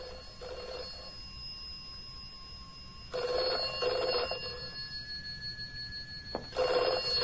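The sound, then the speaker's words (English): A telephone bell rings in repeated double bursts separated by pauses, three rings in all, clear with a faint background hum and no voices. “These phone calls really seem to be getting her down.”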